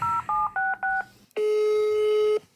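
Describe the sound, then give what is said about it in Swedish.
Four quick dual-pitched phone keypad beeps in a clipped rhythm as a phone call to a friend is dialed, followed after a short pause by a long, steady single-pitched tone, clear, with no voices. “Nu ringer vi henne.”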